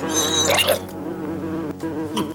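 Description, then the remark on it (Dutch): A loud bee buzz drones steadily for a couple of seconds, its pitch wavering slightly, with no one speaking. “Bijen. Ik heb een hekel aan bijen.”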